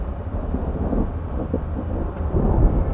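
nature, thunder

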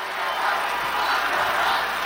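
crowd, crowd chanting

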